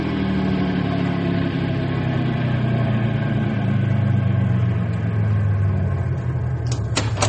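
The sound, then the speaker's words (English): A car engine runs with a steady, loud rumbling drone whose pitch slowly sinks as the car is gently stopped, ending with a couple of sharp clicks. No one speaks. “When I give the word, Sam, stop the car gently and everybody out.”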